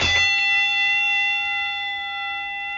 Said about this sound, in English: At the end of the 10 seconds, you will hear a bell.